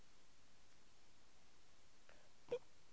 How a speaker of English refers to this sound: Oh, what was that? That was a big burp. That was a big burp, little man.